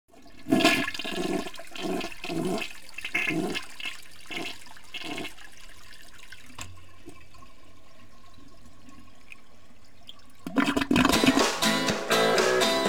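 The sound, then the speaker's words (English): A toilet flushes with a loud rushing swirl of water that settles into a steady lower gurgle as it drains, then surges again with a bright refilling hiss near the end. “The water's slowly spinning around and around. Heading ever, ever further down.”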